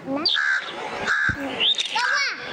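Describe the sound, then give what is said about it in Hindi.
A crow caws repeatedly, about four harsh, raspy calls in quick succession, loud, with no one speaking. “जी ये था कौवा, और कव्वे का जवाब तो जल्दी आया, कौवे का जवाब नहीं आया बल्कि टीम ब्लू ने जवाब दिया है कि ये था कौवा, और इन्होंने जल्दी जवाब दिया।”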